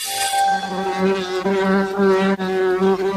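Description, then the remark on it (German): A steady, droning buzz of bees foraging for nectar, continuous with slight wavering in pitch as they hover and move about. No voices, just the insects humming throughout. “Dieses Geräusch hört man in Deutschland und Europa immer seltener. Bienen bei der Nektarsuche.”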